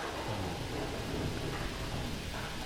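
A heavy downpour roars steadily throughout, a dense, continuous wash of rain with a low rumbling undertone, constant with no voices.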